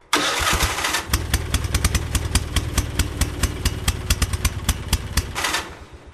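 A small car engine cranks and sputters to life, then settles into a steady, rattling idle with regular clattering pulses, fairly loud, with no voices.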